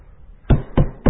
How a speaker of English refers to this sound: Oh, I hear you knocking, Lord. Come in. Come in. Why standest thou without?